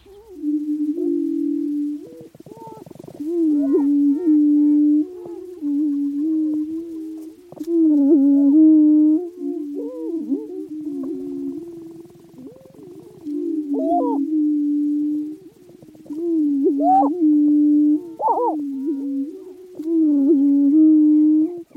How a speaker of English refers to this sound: Let's start in Kansas, USA, and a type of grouse called a prairie chicken.